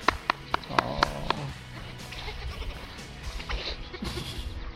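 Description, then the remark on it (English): Several high, wavering bleats from baby goats ring out in the first second or so, then softer bleating and rustling continue in the background. “And because a lot of it is just like jumping and clearing them, except for the one black goat that he jumps on and pushes off.”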